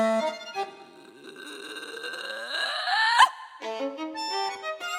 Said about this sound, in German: Brausetablette, Leben im Bauch. Ich glaub, ich muss gleich rülpsen.